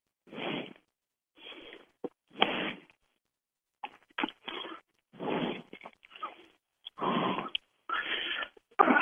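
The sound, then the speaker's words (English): Breathy bursts of noise on a microphone during a group call, coming in irregular puffs of varying length with short gaps between, like someone breathing heavily into the mic. No talking. “Somebody's breathing in the mic.”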